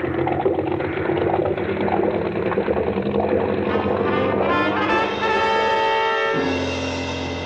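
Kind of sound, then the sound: vehicle, boat engines running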